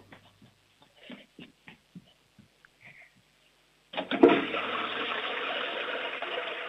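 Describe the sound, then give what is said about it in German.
A few scattered knocks and clicks, then a home toilet flush, the louder of a household's two toilets, bursts in with a loud rush of water that keeps roaring steadily to the end. “Du, das ist eine tolle Klospülung,”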